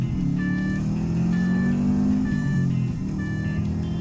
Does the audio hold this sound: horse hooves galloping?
no